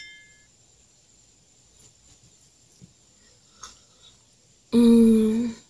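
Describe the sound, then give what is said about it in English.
After a few seconds of near silence, a single loud clink of wine glasses tapped together in a toast rings out, bright and brief with a short ringing tail. “Well, Cheers.”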